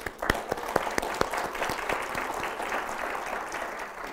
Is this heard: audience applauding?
yes